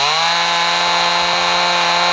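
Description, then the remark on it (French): A chainsaw runs steadily in a hospital room in Romania, used to amputate a leg, its loud, buzzing engine droning at an even pitch for the whole couple of seconds with no voices. “Ah bah ça, c'est une tronçonneuse, hein ! Pour l'amputation de la jambe !”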